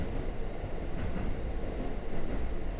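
A train rolls slowly along the rails with a steady low rumble and soft rhythmic clatter, continuous, with no voices.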